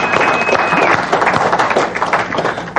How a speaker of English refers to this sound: And everybody, give them a round of applause. It means you're going to have to give yourselves a round of applause at the same time.